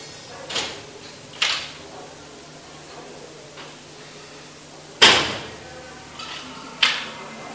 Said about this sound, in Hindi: बाहर क्या चल रहा है? दरवाजा खिड़की बंद कर।